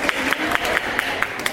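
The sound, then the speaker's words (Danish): A crowd claps together in a steady, quick rhythm, each sharp beat landing over a continuous bed of scattered applause noise, lively. “Ja, nu klapper vi rigtigt her.”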